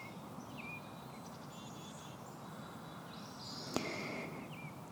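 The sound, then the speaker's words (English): Soft, scattered bird chirps and high whistling calls drift over a steady outdoor hiss, fairly faint, with one brief sharp click partway through. “Now notice the sounds around you. Hear the birdsong.”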